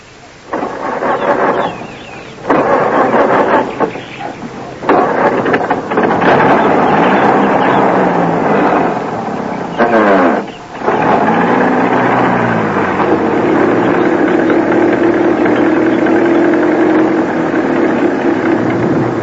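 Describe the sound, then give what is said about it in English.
An old car engine roars, a loud, rough, continuous rumble that revs up and down in pitch, with a couple of brief dips, and no voices. “In that ridiculous old car.”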